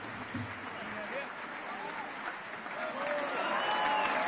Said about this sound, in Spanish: Beatrice Venezzi, en este momento, hace su aplauso. Les pide a los músicos que se pongan de pie. Los aplaude como es costumbre.